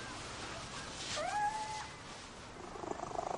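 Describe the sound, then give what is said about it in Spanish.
A black cat gives a single drawn-out meow with a rising, then level pitch, as it is picked up and held. It sits over a steady low background hiss, and soft rhythmic rustling follows near the end. “Coge a un gato negro y se lo pone encima.”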